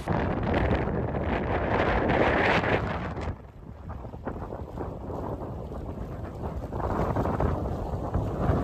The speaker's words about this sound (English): It really didn't go very well, even with a big heavy drone I've got. It was too windy.